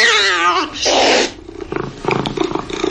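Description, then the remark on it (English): A cat lets out a loud, drawn-out meow with a wavering pitch, followed by a harsh hissy burst, then a voice starts talking. “Wayfair can't stop your cat from taking the best seat in the house.”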